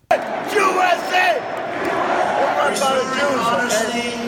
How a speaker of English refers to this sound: as soon as everyone's done chanting USA